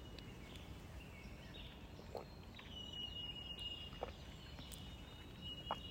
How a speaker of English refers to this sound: Listen to the birds.